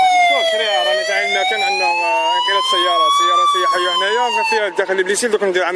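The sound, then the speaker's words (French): A loud emergency vehicle siren wails continuously as a rescue unit's truck and two medical ambulances head to a serious road accident on the motorway near Blida, its pitch slowly rising and falling, turning choppier and mixed with other noise toward the end. “L'unité mobilise un camion et deux ambulances médicalisées.”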